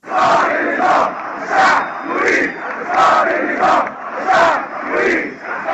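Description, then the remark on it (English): A large crowd in Egypt's Tahrir Square in February chants the slogan "The people demand the fall of the regime" in unison, loud and steady, with repeated swelling phrases roughly every second, recorded on a demonstrator's cell phone and sounding tinny. “Crowds and crowdsourcing, a big deal in Egypt's Tahrir Square in February, chanting here what would become the refrain of the Arab Spring, "The people demand the fall of the regime."”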